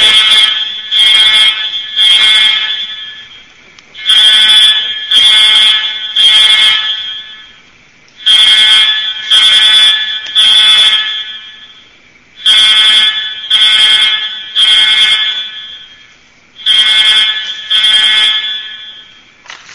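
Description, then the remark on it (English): A building alarm system, sounding its regular test on the first Wednesday of the month, blares loud and shrill in repeated sets of three long blasts separated by short pauses, with no voices over it. “That is an alarm system that goes off on the first Wednesday of the month.”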